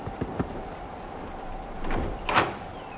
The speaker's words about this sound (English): Knock on the door.